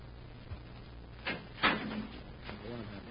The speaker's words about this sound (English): Just do as I say and we'll both be all right. Just get back in that living compartment and lock the door.